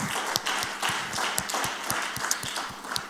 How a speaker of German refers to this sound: Lass uns immer einen Applaus geben.